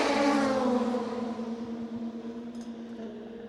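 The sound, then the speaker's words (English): A race car engine in the pit lane runs with a loud, buzzing roar that eases into a steady, droning idle hum as the car is put up on air jacks, with no one talking. “the team was not expecting the car to come into the pit lane”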